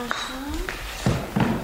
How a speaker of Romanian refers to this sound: Uite, mutăm masa în mijlocul odăi. Pe urmă, așez scaunele.